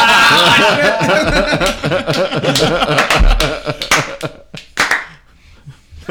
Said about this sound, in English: clapping on this podcast.